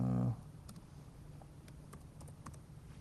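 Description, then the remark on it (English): Soft, irregular clicks of typing on a computer keyboard, several quiet keystrokes spread across a few seconds over a low background hum, following a brief loud tonal burst at the start. “Oh, this is another keyboard.”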